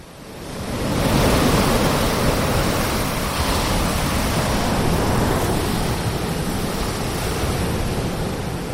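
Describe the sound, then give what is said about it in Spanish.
Ocean waves wash steadily onto the shore, a broad, continuous roar of surf that swells in after the first second and stays loud throughout, with no voices. “Te cruzan la calle y de repente escuchas y ves la inmensidad del mar y notas los rayos del sol en la poca piel que sale de las sábanas.”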